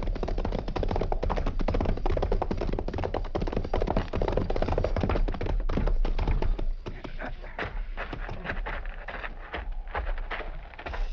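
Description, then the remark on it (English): A rattlesnake about to strike rattles in a continuous dry, rapid buzz of clicks that holds steady and loud for several seconds, easing slightly near the end, with no voices. “Rattlesnake.”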